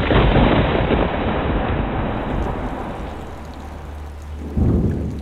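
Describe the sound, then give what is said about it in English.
Steady, heavy rainfall hisses throughout while deep thunder rumbles loudly at the start, fades to a softer roll, then swells again in a fresh low boom near the end. “That's how it rains.”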